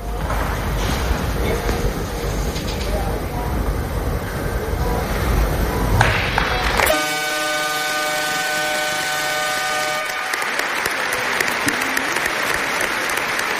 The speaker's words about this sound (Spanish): Un largo aplauso.